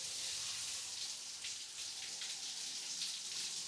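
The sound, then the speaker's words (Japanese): A shower sprays water in a steady, hissing rush, fairly loud, with no pauses and no voices. “もう少しシャワー強くしてみようね。”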